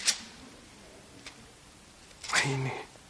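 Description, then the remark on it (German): Thin Bible pages are flicked while looking up 1 Timothy 2, a crisp rustle at the start, a faint one midway, then a louder papery swish near the end as a voice briefly begins. Fairly quiet. “Und dann auch noch diese dünnen Seiten.”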